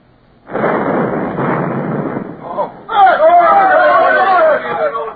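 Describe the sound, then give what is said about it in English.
A ship's cannon fires at Spanish vessels, a loud, noisy blast that unseats the plug in the gun's touch hole and rumbles on for about two seconds before raised voices break in, shouting over the fading roar. “The powder blast unseated it.”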